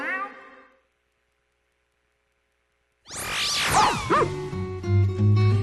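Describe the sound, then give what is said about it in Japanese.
A short yappy puppy bark, then after a few seconds of silence, a kitten's rising and falling meows over bright music with a steady bass line, in a radio sponsor spot for the pet shop One Love. “子犬、子猫、子犬、子猫、ペットショップワンラブ。”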